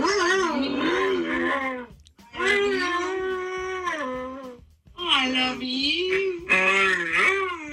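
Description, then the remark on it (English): A husky named Brutus the Goofus gives drawn-out, wavering howls and moans in three long, loud phrases, bending in pitch as it says "I love you" back to its owner. “And his owner's saying, I love you. I love you. And he says it back.”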